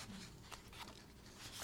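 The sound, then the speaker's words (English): Sheets of paper are shuffled and rustled as someone searches for the right page of a prayer, soft continuous papery friction broken by a few brief crinkling flicks, with no talking. “I have too many pieces of paper.”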